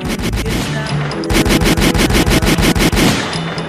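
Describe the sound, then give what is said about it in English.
A burst of rapid gunfire sound effect, loud, with sharp repeated shots in a fast steady rhythm, preceded by a few scattered cracks. “My fault, I couldn't find a gunshot.”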